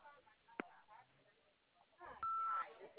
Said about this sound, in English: If you please leave your name and number after the beep, we'll return the call as soon as possible. Thank you.